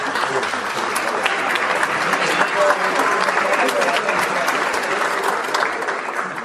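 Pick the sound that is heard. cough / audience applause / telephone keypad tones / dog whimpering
audience applause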